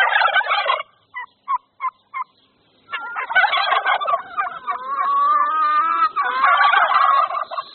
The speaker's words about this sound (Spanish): guajolotes y otros pájaros